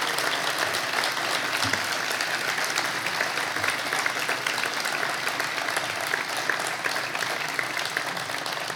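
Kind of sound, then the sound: crowd, applause and ovation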